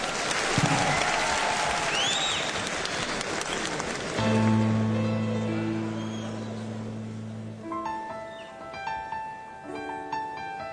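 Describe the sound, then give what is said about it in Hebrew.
A crowd applauds a music producer introduced on stage, with dense, steady clapping that fades gradually, while sustained musical notes begin partway through and continue under the dwindling applause. “תנו לו הרבה הרבה מחיאות כפיים.”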